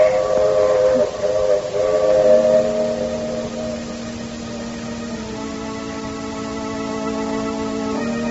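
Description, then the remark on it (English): A steam train whistle sounds as the train comes through the Connecticut hills into the station of the small town of Lastonbury, in long, sustained harmonic tones, first higher-pitched then shifting to a lower steady pitch, over a continuous hiss of steam and rumble. No one speaks. “Well, the train is coming into the station now, Doctor.”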